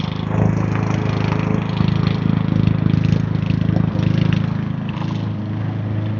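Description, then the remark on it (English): A lawn mower engine drones steadily outdoors, a constant mid-pitched motor hum with slight fluctuations, continuous throughout with no one speaking. “Yes, it's lawnmower season.”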